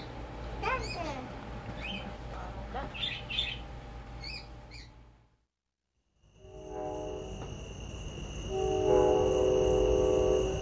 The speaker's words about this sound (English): That was the show train heading home.